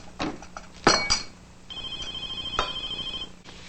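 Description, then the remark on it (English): A cordless telephone on a kitchen countertop by the dish rack rings with a steady, high electronic warble lasting over a second, after a few sharp clinks of silverware, plates and bowls being stacked in a modest kitchen. “Trevor searches the countertop and finds the cordless phone by the dish rack”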